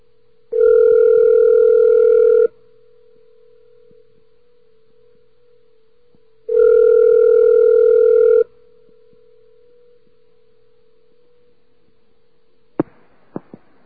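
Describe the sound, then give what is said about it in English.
A steady telephone dial tone hums throughout as a call is placed to a recorded information line, swelling much louder in two long two-second stretches, then a few sharp clicks like handset or button presses near the end. No one speaks. “Dial tone, please?”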